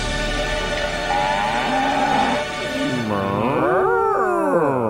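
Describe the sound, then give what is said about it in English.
A cow lets out a long, loud moo that bends and wavers in pitch, followed by a second drawn-out, rising-and-falling bellow, with no talking; the cow sound marks the Caller of the Week segment on Jimmy and Nate's radio show. “Yes, it is our cow, our Caller of the Week.”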